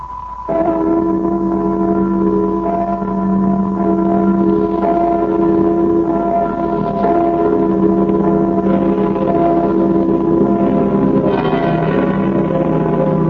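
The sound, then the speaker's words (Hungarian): Large church bells ring steadily and loudly for about thirteen seconds as a radio noon time signal, the first stroke marking 12 o'clock. Their deep overlapping tones blend into a continuous resonant peal with no voices present. “Kedves hallgatóink, most pontos időjelzést adunk. Az első harangkondulás 12 órát jelez.”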